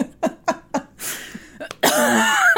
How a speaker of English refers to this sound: So, I'm keeping that one in. Leave that cough in. That was so nasty.